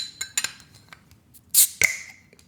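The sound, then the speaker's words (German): A bottle of red beer (Rotbier) is pried open with a bottle opener held up to a microphone: a few small metallic clicks and scrapes, then a sharp pop with a short burst of fizzing hiss and a bright glassy ring. “Ja, der liegt gut in der Hand, der Öffner. Und haltet ihr die Flasche ein bisschen mehr ans Mikrofon?”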